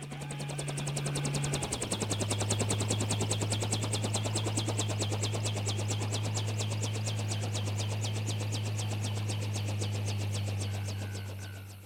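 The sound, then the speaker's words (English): A helicopter, called by a policeman, arrives: a loud, rapid rhythmic chopping of rotor blades over a deep engine drone. The low hum steps down in pitch early on, then holds steady with no voices. “20 minutes later, the helicopter arrives.”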